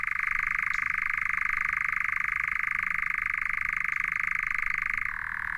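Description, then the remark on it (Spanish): A persistent, drill-like bird call: a steady, rapidly pulsing buzz at a fairly high pitch that holds unbroken for about five seconds before stopping abruptly. No voices. “Es como una broca persistente. Más que seductor, es hipnótico.”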